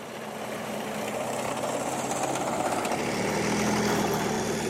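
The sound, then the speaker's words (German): A Leopard 2 main battle tank, about 1500 hp and over 60 tonnes on two tracks, rumbles steadily during live firing at the Bergen-Hohne training area, a dense, loud mechanical drone with a low throb underneath that swells slightly over a few seconds. No one speaks. “Der Kampfpanzer Leopard 2, hier beim scharfen Schuss auf dem Übungsplatz Bergen-Hohne.”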